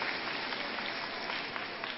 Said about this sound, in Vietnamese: À rồi, cho một chàng pháo tay.